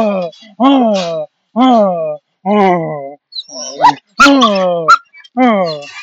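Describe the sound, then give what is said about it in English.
A dog whimpers in a string of about seven drawn-out, wavering whiny cries, with a few short, sharp barks breaking in midway. The calls are fairly loud and come in a steady rhythm. “You know, if you have a dog, yes. How can you resist it?”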